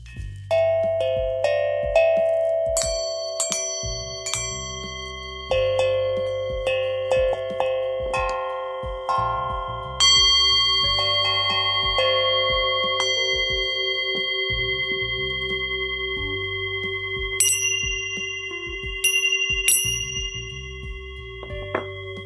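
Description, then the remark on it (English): A Tibetan singing bowl hums with long, shimmering sustained tones while Tibetan dragon tincture bells chime in bright, scattered strikes, over a steady low pulse from a chakra drum. No one speaks. “My chakra drum, my Tibetan singing bowl, and my Tibetan dragon tincture bells.”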